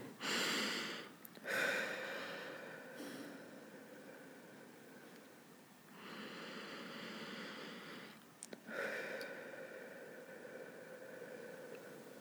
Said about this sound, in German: Und zwar, wir atmen erstmal durch die Nase ein und durch den Mund aus.